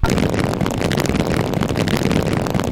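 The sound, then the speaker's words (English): A small car sound effect from a video game: a harsh, buzzy engine drone that stays loud and steady for a few seconds, with no voices over it. “That is supposed to be a car. You're supposed to jump over those. I don't like that sound.”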